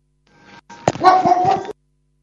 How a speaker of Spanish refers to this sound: Él quiere participar de la nota y nosotros lo dejamos, porque es muy copado el perrito.